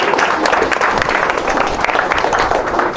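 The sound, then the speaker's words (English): An audience applauds steadily, a dense, loud wash of many hands clapping with no break for the whole stretch. “I'll give him a big round of applause.”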